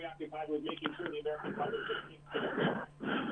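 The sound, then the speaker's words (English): Heavy, raspy breathing from a man calling in to a radio program over a thin, band-limited phone line: several long, wheezy inhales and exhales in a row, fairly loud, with a faint steady hum beneath. “Oh, he's calling in and breathing heavily.”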